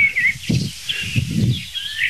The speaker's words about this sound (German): hat überall die Singdrosseln auf dem Boden. Wirklich keine einzige Amsel, nur drei Singdrosseln. Und jetzt hört ihr.